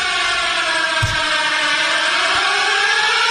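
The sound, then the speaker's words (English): A loud siren sound effect wails continuously, its layered tones holding steady with a slight rise and fall, filling the whole few seconds with no voices over it. “That's a good siren. I like that one.”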